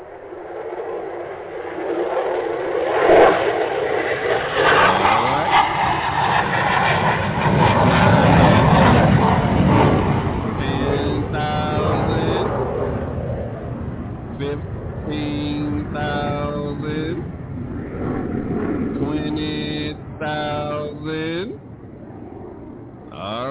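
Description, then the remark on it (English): A loud, steady engine roar of an airplane taking off swells for several seconds, then fades back as a man's voice takes over the second half. “Okay, let me get this big-eyed bird on up off the ground.”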